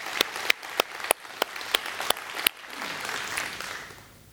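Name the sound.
audience hand clapping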